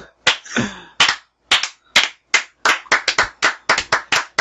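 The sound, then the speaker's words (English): A slow clap: sharp, loud hand claps with no talking, starting with spaced-out beats and gradually quickening into a faster, steadier run of about a dozen claps. “Oh, is this a slow clap?”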